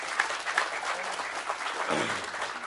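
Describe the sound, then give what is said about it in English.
A crowd applauds steadily for a man who has just presented his work, many hands clapping in a dense, continuous patter that holds at an even moderate level throughout, with a faint murmur of voices underneath. “All right, if you'll pray for him, how about a good round of applause so he knows that?”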